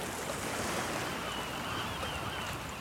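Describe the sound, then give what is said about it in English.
Steady ocean surf washes in continuously at a sunny beach, a broad, even hiss of breaking waves with a low rumble underneath, constant without pauses or voices. “It is so nice and sunny today at the beach. The sand is bright. The water is glistening.”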